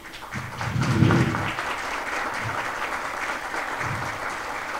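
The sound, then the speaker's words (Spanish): A crowd applauds steadily, a dense wash of many hands clapping that swells briefly near the start and then holds at an even, sustained level. “Bueno, les pido un aplauso.”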